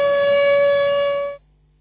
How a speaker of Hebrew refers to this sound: אני מתנצל על הקיטויים קודם, האזעקות הפרו את שלוות השידור. כן, זהו, אתם מורגלים בזה גם כן.